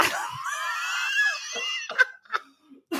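A person lets out a long, loud, high-pitched scream lasting almost two seconds, followed by a few short gasping breaths and bursts of voice.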